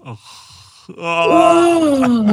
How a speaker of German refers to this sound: Wollen wir mal kurz gähnen? Einfach für den Sauerstoff. Ja, komm, wir gähnen einmal zum Abschluss gemeinsam.